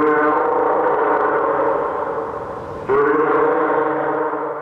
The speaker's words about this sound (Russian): Морской котик.